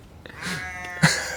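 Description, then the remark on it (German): Farm animals calling outdoors: a drawn-out, wavering bleat from a sheep, followed by a harsh, raspy blast like a donkey's bray, both loud, with no talking. They are heard from a rooftop terrace, with the sheep on one side and the donkey on the other. “Auf der einen Seite mäht ein Schaf, auf der anderen Seite wird ein Esel vergewaltigt.”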